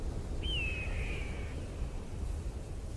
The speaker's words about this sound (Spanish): Eso que suena parece un pájaro. Y al elevar la mirada hacia el cielo azul, observas que es un águila que sobrevuela por el desierto, extendiendo sus grandes y plumadas alas.